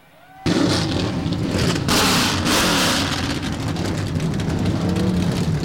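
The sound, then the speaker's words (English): After a brief hush, the field of NASCAR Craftsman Truck Series race truck engines at Texas bursts to life all at once on the command to fire engines, building into a loud, sustained rumbling roar with rising revs and no voices. “So the field roars to life right now”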